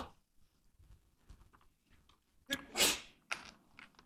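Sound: sneeze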